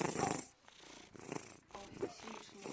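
A cat purrs, a steady rumbling purr that swells and eases in rhythmic breaths, with brief gaps between cycles.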